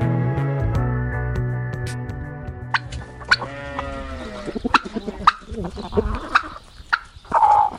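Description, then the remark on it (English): Chickens cluck and squawk in short, irregular bursts, with a steady, drawn-out animal call at the start and busy farmyard clatter growing louder toward the end. “We're talking about the gap in the organic food chain there with the chickens behind us.”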